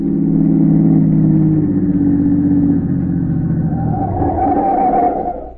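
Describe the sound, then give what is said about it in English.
A car engine drones steadily with strong low harmonics during an early-morning tailing of a smuggler's car, then its pitch shifts and rises as it revs up toward the end, loud and continuous with no voices. “and he just managed to keep the smuggler's car in sight.”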